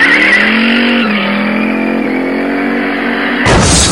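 A truck backs in with a loud, steady mechanical whine whose pitch sags slightly, then a sudden harsh crash of impact near the end.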